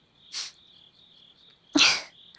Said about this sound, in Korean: 왜 귀뚜라미 소리 나는 거야? 아, 여기 지금 새벽이라 벌레가 있나 봐.